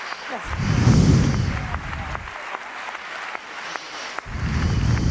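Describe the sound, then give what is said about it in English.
An audience claps steadily to welcome the speakers of a panel on activism and hope, a dense, crackling burst of applause that swells, eases off briefly, then rises again near the end, with faint voices mixed in. “Please welcome all the speakers with a big round of applause.”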